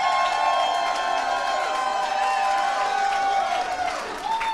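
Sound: audience cheering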